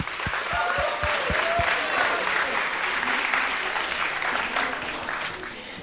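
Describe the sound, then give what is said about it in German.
Sustained audience applause, a dense wash of many hands clapping loudly throughout, with a few sharper individual claps early on and a murmur of crowd voices underneath, tapering slightly at the end. “Dankeschön, großen Applaus für euch!”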